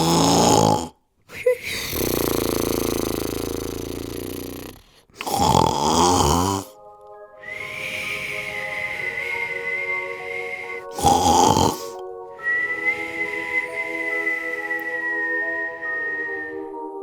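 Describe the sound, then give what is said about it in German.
Loud, rasping snores alternate with long, high whistling exhales, two full cycles of a comical snort-then-whistle pattern with no talking. “…, nicht einschlafen.”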